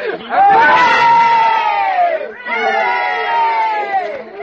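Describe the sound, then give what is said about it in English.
A crowd cheers loudly for Captain Seeky in two long, sustained bursts, many voices swelling together and then trailing off, with a brief dip between the two shouts. “Come on, let's give him a cheer.”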